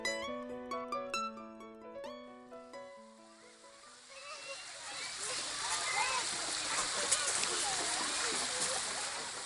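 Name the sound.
splashing water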